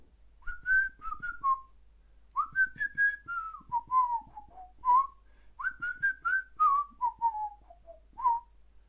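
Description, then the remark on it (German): A person whistles a tune alone, three flowing phrases of gliding notes that rise then descend, clear, with short pauses between phrases. “Ah, Pfeif, du wolltest pfeifen.”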